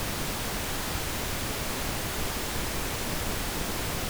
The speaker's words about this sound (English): Second, two separate, unrelated, uncorrelated wave traces of pink noise, one sent to the left speaker, the other to the right speaker.